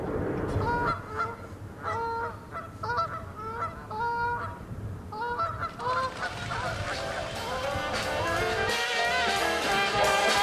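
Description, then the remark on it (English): A voice imitates bird calls with a rapid series of short, nasal honking notes in bursts, then a denser, overlapping flurry of calls, loud with no talking. “Every bird got his own song.”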